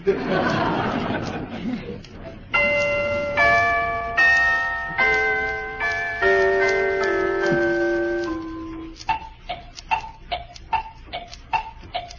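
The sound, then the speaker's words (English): A clock ticks in a steady, even tick-tock, about a dozen crisp clicks, following a run of ringing, chime-like tones. No one talks over it. “Clock.”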